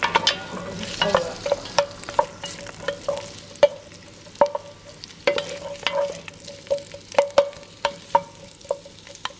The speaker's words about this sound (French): Donc je fais revenir les oignons.